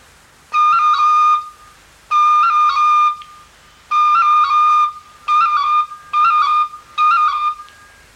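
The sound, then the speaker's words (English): A tin whistle plays six short phrases on a high D, each ornamented as a roll, with quick cuts of the E finger and the C note that give a rolling, fluttering effect. It's clear, with brief pauses between phrases. “In jigs, it is sometimes possible to cut with the E finger and play the C note in rapid succession to get a proper roll on the high D.”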